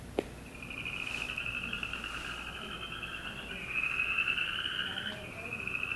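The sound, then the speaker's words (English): A frog gives a long, sustained trill that steadily builds in loudness, with a second overlapping trill joining partway through, against a quiet outdoor background. “Yeah, I put that note down there because some folks get it confused with the gray tree frogs, except gray tree frogs are a trill that does not rise.”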